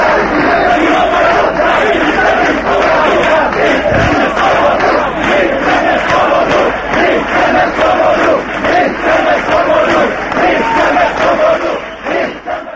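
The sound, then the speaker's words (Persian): A large crowd of freedom protesters in Czechoslovakia, on the 20th anniversary of the Eastern Bloc occupation, chants loudly and continuously, many voices blending into a dense, rhythmic roar of shouted slogans for unity and the fall of communism, holding steady for the whole stretch. “آنها شعار می دادند که قدرت در وحدت و یک پارچگی است.”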